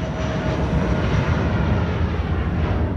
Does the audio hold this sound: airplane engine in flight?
yes